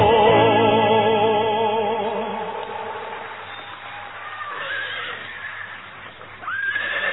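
A horse whinnies loudly, a long quavering neigh that slowly trails off, followed near the end by a second, shorter rising call.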